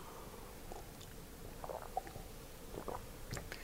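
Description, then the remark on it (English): Someone takes quiet sips of water, with soft wet mouth clicks and small gulps scattered through a few seconds of near silence. “And maybe it's dry, so I'll have a little bit of water.”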